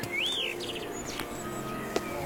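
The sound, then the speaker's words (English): Birds sing outdoors in a park in Berlin on a crisp autumn day, in a short burst of clear, rising whistles and quick chirps over a soft, steady background hum, moderately loud, with no one talking. “Birds serenaded me. Ah, just listen.”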